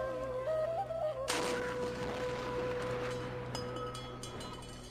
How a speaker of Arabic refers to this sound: يلا يا عيال بنسير جدا المدفع، وشلوا تمركم ومايكم عسب تفطرون من يذن. أبويا أخاف من صوت المدفع، عادي أسد دنيا؟